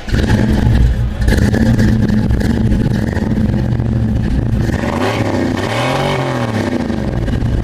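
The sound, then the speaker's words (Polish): A classic American V8 car engine at a fair in Poznań rumbles loudly, idling with a deep steady throb before being revved up and back down in a swelling roar, with no voices. “A jak silnik pracuje, można sprawdzić?”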